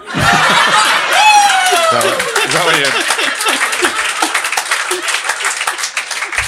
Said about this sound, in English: See how you get a clap for this shit now?